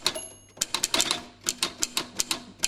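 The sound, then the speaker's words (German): An old mechanical typewriter clacks away in an uneven burst of about a dozen crisp, sharp key strikes, fairly quiet, with no voices. “Ein Pensionär, der den grössten Teil von seiner Zeit ganz seinen alten Schreibmaschinen widmet.”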